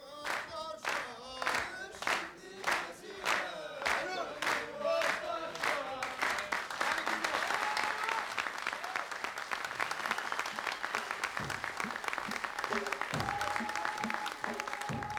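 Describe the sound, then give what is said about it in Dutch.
An enthusiastic audience at an event devoted to Berber culture in the Netherlands claps in steady rhythmic unison, then breaks into loud, dense applause mixed with excited cheering and shouting voices that carries on to the end. “Het aantal bezoekers is elk jaar weer groter, het publiek is laaiend enthousiast.”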